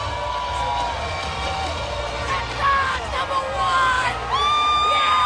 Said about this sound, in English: The Red Sox and hundreds of thousands of their fans celebrated the team's World Series championship yesterday with what has become a Boston tradition, a duck boat rolling rally.